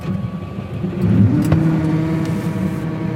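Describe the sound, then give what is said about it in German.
A tractor engine drones steadily, its low rumble swelling slightly as it pulls forward, with a faint whirring hum over the continuous motor noise. The tractor is being steered into its track in a winter wheat field at an agricultural cooperative southeast of Delitzsch, Germany. “lenkt den Traktor in die Spur.”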